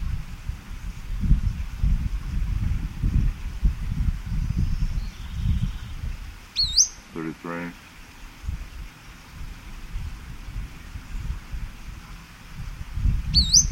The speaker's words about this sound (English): Bird is sitting up like the male that gave the songs previously.